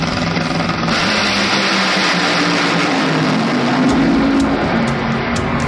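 The Tequila Patron Toyota Camry nitro funny car, driven by Alexis DeGioia, roars loud and continuous for several seconds, a dense, thundering blast with a low droning pitch that rises slightly midway, with no voices.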